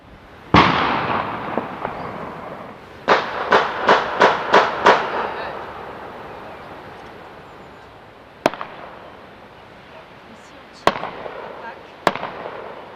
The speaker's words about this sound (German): Ja, so wird ordentlich geknallt und zwar mit Gewehren. Am Ostersonntag wird dann morgens nach dem Hochamt in die Luft geschossen.